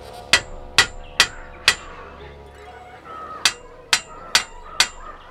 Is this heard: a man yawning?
no